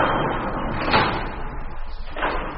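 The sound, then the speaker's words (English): Elevator doors grind and rumble open with a steady mechanical whoosh, with a sharper clunk near the start and another near the end. Nobody speaks. “Open those elevator doors.”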